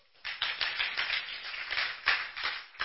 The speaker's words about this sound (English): Give a big hand clap to the Lord.